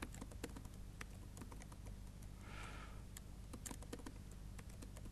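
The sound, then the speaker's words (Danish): Keys clack on a computer keyboard in quick, uneven bursts, fairly quiet, with a brief soft hiss midway and no voices, as someone types a password for a new virtual machine created from a template. “Jeg kan se, om jeg kan taste ens.”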